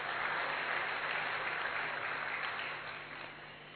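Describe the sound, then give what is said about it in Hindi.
A crowd at a youth retreat applauds steadily in thanks to the stage, a dense wash of many hands clapping at once, holding strong before gradually thinning and fading toward the end. “ऐसा सम्माननीय मंच, इस मंच को भी हम बहुत बहुत दिल से अभिनंदन करते, धन्यवाद करते जोरदार तालियों के साथ।”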